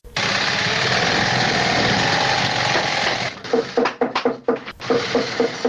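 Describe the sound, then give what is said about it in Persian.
A loud, steady mechanical whir of shoe-stitching sewing machines runs continuously, then breaks into a series of sharp, rhythmic hammering knocks, as workers hammer and sew at a shoe factory in Kabul, Afghanistan. “یکی از کارخانه های تولید بود در شهر کابل که کارگرانان با دلسردی تمام و نامید از یک آینده روشن چکش می زنند و چرخ ماشین های بودوزی را به صدا در می آورند.”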